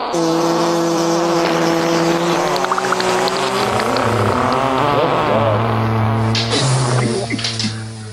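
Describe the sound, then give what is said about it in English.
A long, loud, wet fart sound sputters on for about eight seconds, its low buzzing pitch wavering and dropping in steps before it trails off at the end. No one speaks. “Please play him a bunch of fart sounds and a Geez Louise.”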